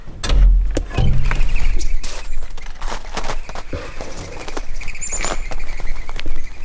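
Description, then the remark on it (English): Mourning doves at a museum burst into flight as a door is opened, their wings giving off a series of fluttering, whistling beats, with a faint chirp partway through and no voices. “I'm going to let you open the door because when the mourning doves take off their wings, you know, you'll be able to hear their wing sound.”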